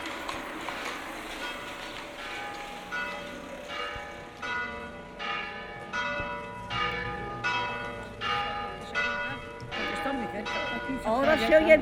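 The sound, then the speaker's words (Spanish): Church bells from a church just up the street ring out in a steady, repeated peal, each resonant strike blooming and fading into the next at roughly one-second intervals, fairly close and clear over faint street background. “Ahora se oyen menos, porque las campanas, ahí arribita hay una.”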